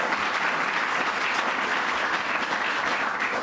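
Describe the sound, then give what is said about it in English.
A sustained round of audience applause for the state's $500 million investment commitment, a dense steady wash of many hands clapping at once, fairly loud and even throughout with no voices breaking through. “So let's give them another round of applause, and I thank them for it.”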